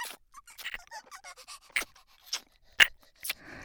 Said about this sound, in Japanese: この子、前足で床を引っかいているわ。本当にワンちゃんみたい。